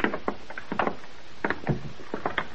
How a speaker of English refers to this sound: Open the door. Down the stairs.